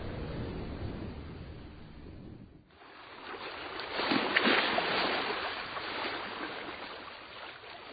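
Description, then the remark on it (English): Rough water churns and rushes continuously, with a low rumbling wash that gives way to a hissing surge building and swelling midway, as big waves smash into a boat rocking and rolling on a stormy sea. “It rocked and rolled on the stormy sea.”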